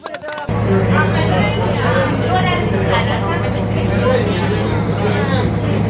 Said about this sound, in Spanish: Bueno, pues estamos ya en la lancha, subidos. Acaba ahora de arrancar. Supongo que subirá el motor. Y ya vamos camino de Santander. Estamos pasando justo al otro lado de la bahía, evidentemente.